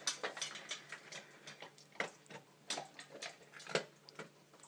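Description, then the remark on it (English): A small female dog eats her breakfast of kibble, with rapid, irregular crunches and clicks, like steady chewing. There is no talking, only a quiet background. “Here's a greedy little dog having her breakfast, munching and crunching away.”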